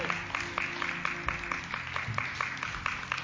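A church audience claps their hands together for the children as children's church opens: a dense, steady patter of many overlapping claps with a few sharper accents, sustained at an even level throughout, with a low hum underneath.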